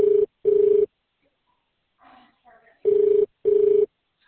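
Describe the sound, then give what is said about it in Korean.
A KakaoTalk voice call ringtone plays as paired electronic tones, two bursts, a short pause with brief quiet murmuring, then two more bursts, loud. “pick up 카톡 전화해야 돼?”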